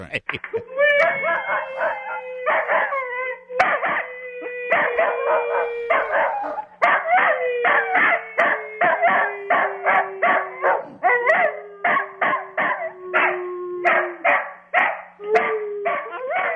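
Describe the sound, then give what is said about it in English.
Caesar, a Cocker Spaniel, barks loudly and rapidly in a steady, almost musical rhythm, dozens of sharp barks over a sustained, slowly falling howl-like tone that runs nearly the whole time. “A little too much barking for Caesar, not enough singing.”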